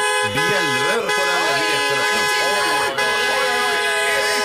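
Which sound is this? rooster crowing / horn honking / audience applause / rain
horn honking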